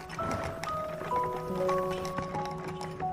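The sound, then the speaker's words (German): Horse hooves clatter in a steady, uneven patter while the wheels of a cart loaded with amphorae full of wine creak and squeal in drawn-out tones, continuous with no one speaking. “Du hörst das Klappern der Hufe und das Knarren der Räder.”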